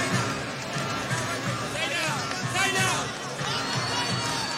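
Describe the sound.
A loud, steady roar of audience applause and cheering fills the whole stretch, with scattered voices shouting above the dense crowd noise.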